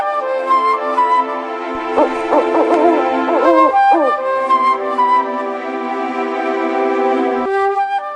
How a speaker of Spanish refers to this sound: Y ya ha caído la noche, ¿eh? Ya el búho, la lechuza, no sé qué será, nunca lo super distinguí. Ya andan por ahí andando. Ya andan por ahí avisándonos que ya ha caído la noche.